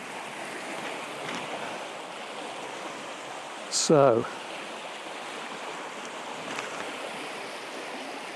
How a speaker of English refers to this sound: well, you can hear it now. We've sort of done a loop round and we're back by the main river again. So it's quite noisy here because the flow's coming down over a couple of big boulders. And this is on the other side of the river to me.